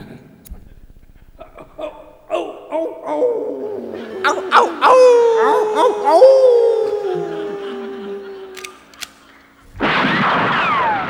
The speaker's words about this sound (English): That show always begins with that stupid coyote howl thing. But it's so cute how they effortlessly weave the stupid coyote howls into some unexpected situation.